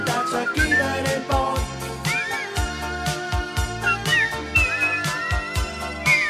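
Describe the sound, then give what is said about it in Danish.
A bright whistled melody glides and bends over a steady, punchy drum beat and deep bass line, with no talking, the whistle sitting clearly above the busy backing music. “Jeg ved ikke, om det er sådan, det er fløjtedelen af det.”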